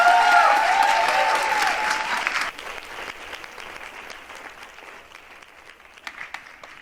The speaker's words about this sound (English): We have a drag show from Berlin with people with different cultural backgrounds, and give a warm applause to the Queens Against Borders Collective.